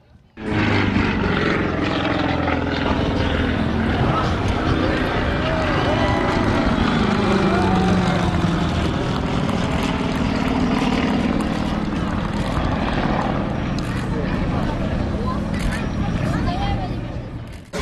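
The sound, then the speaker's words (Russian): Two propeller airplanes of the Odesa aero club perform aerobatics at an air show in the sky above the Khadzhibey Estuary, engines droning loudly overhead, pitch rising and falling as they swoop and turn, with a steady wash of crowd voices murmuring underneath for the whole stretch. “Восторг вызвало авиашоу, которое представили пилоты Одесского аэроклуба на двух самолетах, исполнившие фигуры высшего пилотажа в небе над Хаджибеевским лиманом.”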